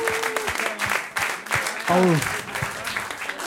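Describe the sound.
A crowd breaks into steady, dense applause for a team being given beer as a gift, clapping filling the space at moderate loudness, with voices calling and cheering briefly over it.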